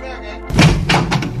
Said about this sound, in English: As today's action-packed drama begins, Aoife's hears a knock at his door just before midnight.